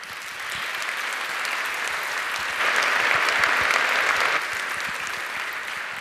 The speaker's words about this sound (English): Warm welcome and a lot of applause.